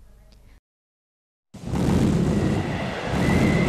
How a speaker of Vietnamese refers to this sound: Ôi trời, sấm sét mưa gió thế này, không biết cây xoài của ta có trụ nổi không nữa.